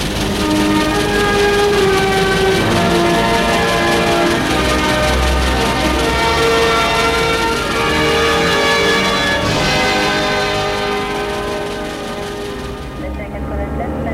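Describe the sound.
A train from the Part-Dieu station to Paris rolls along in the rain with a loud, steady rumble and clatter, overlaid by sustained ringing, horn-like tones that fade slightly toward the end. Indistinct voices murmur faintly beneath the noise.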